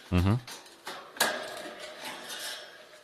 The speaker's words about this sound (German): Gut. Als nächstes machen wir die Wasserflasche sauber.